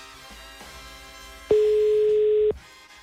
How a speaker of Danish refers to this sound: Så nu ringer den.